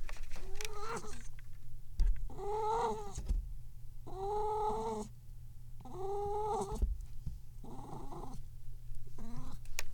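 A cat meows repeatedly, a series of five or six drawn-out, wavering yowls separated by short pauses, over a low steady background rumble.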